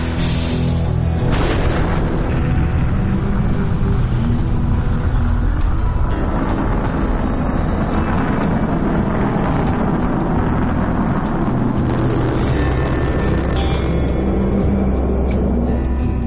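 A deep, continuous roar of a rocket's main engines firing at launch rumbles loudly and steadily throughout, heavy low-end thunder with a crackling, rushing texture, with no voices present.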